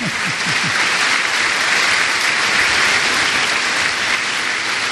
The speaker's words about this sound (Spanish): Está bueno, un aplauso a los padres, a los dos viejitos.